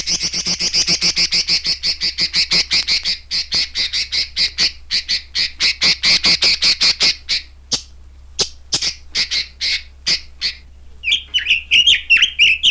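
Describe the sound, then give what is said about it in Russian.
A red-billed leiothrix (Chinese nightingale) calls in rapid, repeated harsh chattering notes, loud, with a brief pause before a final burst of higher chirps; no talking. “Это китайский соловей. Вот клич его.”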